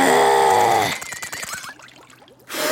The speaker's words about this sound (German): In diesem Moment fährt ein Wagen an ihr vorbei und spritzt sie mit Matsch voll.